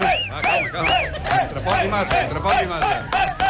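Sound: studio audience applauding loudly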